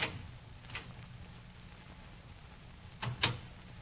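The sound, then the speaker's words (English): A house door opens quietly as someone enters: a soft click, a pause, then a pair of latch clicks and a light knock near the end, over a low steady hum with no talking. “Go on into the house.”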